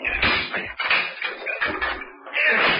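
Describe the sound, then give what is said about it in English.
A chair is smashed against a locked door in about four heavy blows with clattering wooden rattles in between, loud and uneven, as someone batters hard to break the lock; a leg breaks off the chair. “I'm bringing the other furniture back so I can get a good swing. Now then, we'll see how strong that lock is.”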